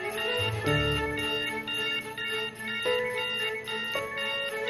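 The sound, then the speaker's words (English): A phone alarm in the Hallmark Channel film The Christmas Cure rings with a bright, electronic chiming melody, repeating a short phrase roughly once a second at a steady, fairly loud level, with no voices, until a woman in scrubs and a lab coat silences it. “A woman in scrubs and lab coat reclines with eyes closed, then reaches down to silence the alarm on her phone.”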